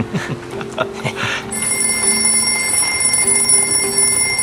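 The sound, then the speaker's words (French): In a scene from the film Jack Reacher, a telephone starts ringing after a short stretch of muffled voices and clatter, a loud, steady, high-pitched electronic ring that continues without pause to the end. “D'abord, le téléphone qui est là va se mettre à sonner.”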